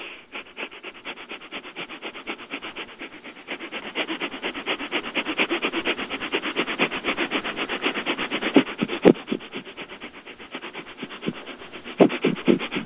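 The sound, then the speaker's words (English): Rapid Breath of Fire breathing done as a guided breathing exercise: a steady stream of quick, forceful, noisy breaths through the nose, pulsing several times per second at an even rhythm for over twelve seconds, with no talking. “So, begin. Breath of Fire.”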